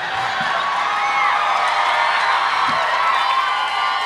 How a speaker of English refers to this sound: Oh, don't cheer.